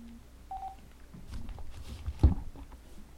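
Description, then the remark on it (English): A short electronic telephone dialing tone beeps once, clear, followed by low muffled thumps and handling noise with no one speaking, as a guest is called on the phone. “I'm glad he answered his phone.”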